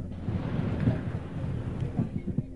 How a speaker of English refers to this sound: Two blocks away, another drone is seen. It flies into an apartment building and crashes. It detonates 14 seconds after the first explosion. The sound can be heard at the ceremony grounds.